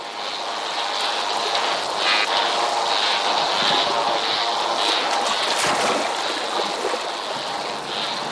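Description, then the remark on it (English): A steady underwater wash of crackling, fizzing reef noise recorded underwater at the Great Barrier Reef, Australia, with dense clicking and popping spread across the whole stretch and a brief swell of rushing water near the middle. No voices. “The sounds we're listening to were recorded underwater at Australia's Great Barrier Reef.”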